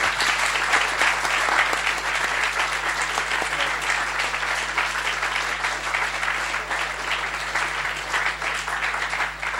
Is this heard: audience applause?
yes